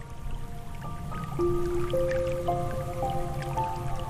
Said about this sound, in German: Du ziehst dir deinen Handschuh aus und lässt deine Fingerspitzen vorsichtig ins Wasser gleiten.